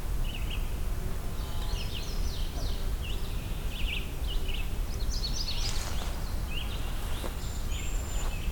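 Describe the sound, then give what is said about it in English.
Thin, very high-pitched whining calls of cedar waxwings, repeated in scattered bursts throughout, fairly faint over a constant low background rumble of wind or traffic. “Cedar waxwing, very high-pitched whine.”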